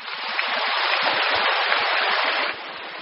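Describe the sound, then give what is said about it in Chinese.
The audience at a dharma assembly breaks into enthusiastic applause, a dense, steady roar of clapping that holds strong for a few seconds before easing slightly toward the end. No one speaks. “好像听到人间福报鼓掌的特别的热烈，我是要你们鼓掌更热烈的话”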